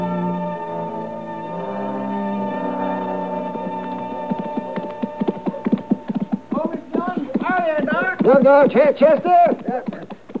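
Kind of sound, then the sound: animal, horse hooves clip-clopping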